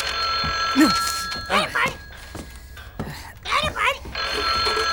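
An old-style telephone bell rings in steady bursts, loud, with brief vocal-like sounds breaking in between the rings.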